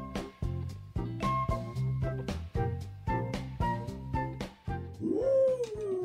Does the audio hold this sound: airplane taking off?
no